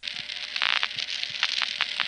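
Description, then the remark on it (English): Panel office brush and group pulsing on a payphone call with no dime inserted, routed through a panel office selector tandem after the third digit is dialed: a steady electromechanical hiss broken by a series of sharp clicks and brief scraping bursts, moderately loud, with no voices. “For that reason, after we dial the third digit, you'll actually hear a panel brush and group pulsing occur.”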